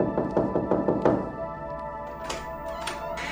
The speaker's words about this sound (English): To me, I remembered the knocking on the door and not answering it, falling back into an uneasy sleep. And I remembered the knocking on the door, answering it, and the attack that followed.